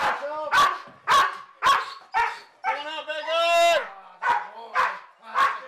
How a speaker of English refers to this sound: When the dog barks, it lets the officers know where the suspect is hiding, and then they move in.